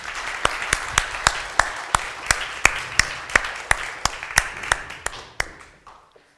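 An audience applauds with a steady rhythmic beat of sharp claps over a dense wash of clapping, holding strong for several seconds before quickly dying away.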